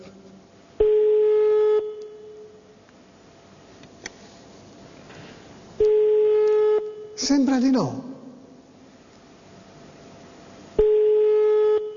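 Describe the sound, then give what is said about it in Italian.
A telephone ringback tone on a call sounds three times, each a steady one-second beep spaced about five seconds apart, with a brief spoken remark between the second and third rings. “Un altro squillo per benevolenza.”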